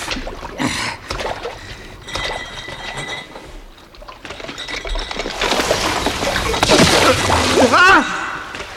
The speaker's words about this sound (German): Wasser und der Pegel steigt immer höher.